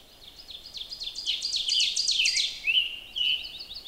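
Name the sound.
rough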